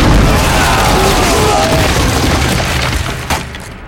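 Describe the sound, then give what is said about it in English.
A huge stone block slides free of a wall, smashing furniture, and crashes into soldiers entering a room with a loud, booming crash. The heavy, noisy rumble holds for several seconds and slowly fades, with one sharp knock near the end. No voices. “The soldiers finally broke through the door, staggering into the room just as the enormous block crashed into them.”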